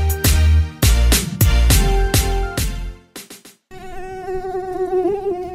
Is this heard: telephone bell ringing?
no